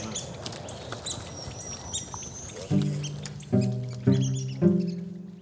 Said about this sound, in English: The red-cockaded woodpeckers just lit in that tree right there. Hear them? There they come. See them flying there? Yes. Oh, my gosh. Right there. Now they're in that tree. There's three of them.